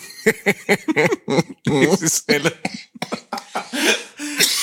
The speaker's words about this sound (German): aber wenn ich lachen muss, kommt immer noch dieser Hustenreiz